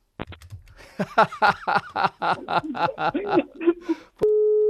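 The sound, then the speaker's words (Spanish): A click, then a steady electronic telephone busy tone after the other party hangs up on a phone call, loud, following a run of choppy, laugh-like vocal sounds. “Sí, vamos a ver, que se le ha cortado el teléfono.”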